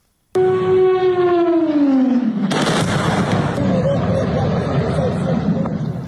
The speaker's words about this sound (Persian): صبح شنبه و ساعتی پس از چند انفجار بزرگ در برخی مناطق کاراکاس که با صدای پرواز هواپیما و بالگرد هم همراه بود، دولت ونزوئلا وضعیت فوق‌العاده اعلام کرد. بامداد شنبه به وقت محلی انفجارها در بندر کاراکاس برخی مناطق پایتخت را به لرزه درآورد.